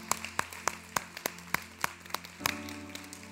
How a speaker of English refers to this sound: In Jesus' name, amen. Can we give God a big hand clap this morning? Thank you, Lord.